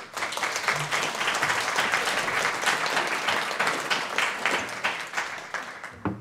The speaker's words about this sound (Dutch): Van Dode Mannen Win Je Niet, mag ik alsjeblieft. Een heel erg groot applaus voor de schrijver van dit boek, Walter van den Berg.